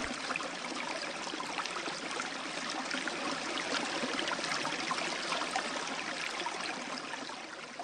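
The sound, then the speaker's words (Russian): Water trickles and babbles steadily from the Bely Klyuch spring, reached by a forest trail after 2.5 kilometres, a continuous splashing flow with no pauses and no voices. “Через 2.5 километра лесная тропка выводит к Белому ключу. Родниковые свойства воды, которого доставляют удовольствие не одному поколению путешественников.”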